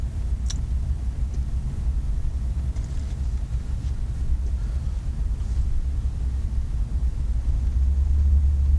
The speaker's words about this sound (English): Now be careful, a railroad train. Yeah, those trains are pretty wild here. We gotta watch out. No, we're in the clear. We get on the other side of the track first.